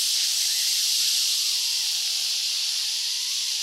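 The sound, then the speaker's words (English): A steady, bright hiss lasting several seconds without a break, a voice imitating the spray of a Doom aerosol insect spray can used on a little spider, fairly loud with no talking. “And then the doom comes out, or the spray comes out.”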